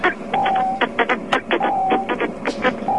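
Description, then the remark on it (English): Rapid, stuttering bursts of electronic buzzing, like cell phone interference breaking into a speaker, with a thin steady whine running under irregular clusters of harsh pulses for about three seconds. “Do the cell phone interference sound again.”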